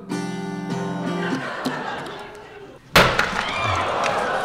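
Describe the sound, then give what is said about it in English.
A sustained guitar chord rings out, then one loud, sudden crash of splintering wood as an actress smashes the acoustic guitar over a chair during a stage play before an audience, leaving jangling strings and a rumble of noise afterward. “she took the guitar, which I bought earlier in the day for $5 from Goodwill, and smashed it to the delight of the audience over a chair”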